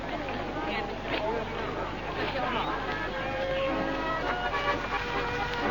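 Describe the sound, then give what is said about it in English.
A wedding car pulls away from outside a church through a dense, noisy crowd, with horn toots rising over steady babble and street commotion, continuous throughout. “There they go. It's the car.”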